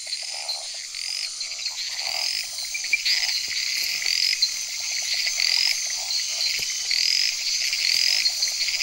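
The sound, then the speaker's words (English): A dense chorus of jungle frogs in a humid rainforest croaking and chirping continuously, with bright repeated calls rising above a steady high-pitched insect-like hum, fairly loud, with no talking. “Living in such a humid environment means jungle frogs are less tied to puddles and pools, and these even lay their eggs out of water.”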